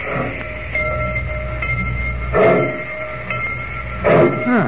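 A train pulls out of the station at Rocky Point: a steady low mechanical rumble with a faint whine, broken by two louder hissing bursts a couple of seconds apart. No voices.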